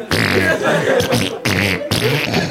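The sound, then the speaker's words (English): Loud raspy blowing noises made by a voice imitating farts, in a few long sputtering bursts with short breaks between them. “Mathematically, you can't cut those farts out.”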